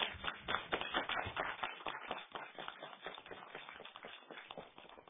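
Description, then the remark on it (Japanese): A small crowd of the day's invited guests, including radio station staff, applauds on request, many hands clapping in a dense, irregular patter that stays fairly steady for about five seconds before thinning slightly toward the end. No one speaks over it. “今の拍手がですね、今日お越しのお客さんです。”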